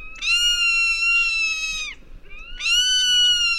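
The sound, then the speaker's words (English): A zone-tailed hawk of the American Southwest gives two long, loud, whistling screams, the first drawn out and the second shorter, each slurring downward at the end, with no other sounds around them. “common sight in the skies of the American Southwest is the zone-tailed hawk, which has an unusual way to sneak up on its prey.”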